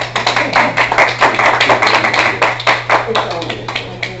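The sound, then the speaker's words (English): A church chapel audience at Piedmont claps for several seconds for a first-time singer, a dense patter of many hands that swells and thins unevenly, with a steady low hum underneath and no voices rising above it. “Give her a hand clap.”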